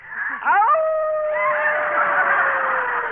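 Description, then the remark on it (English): A man's voice imitates a wolf howl as his wolf call: a quick rising whoop that settles into one long, drawn-out wail, slowly sinking in pitch. It is loud, with no talking. “Yeah, you make me feel like giving my wolf call.”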